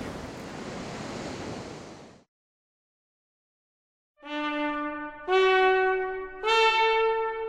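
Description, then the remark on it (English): About two seconds of steady, fairly loud surf wash and splash of ocean waves, then sudden silence, followed by sustained harmonic tones like brass or organ chords entering in steps. “You like the water, though. Oh, there you go.”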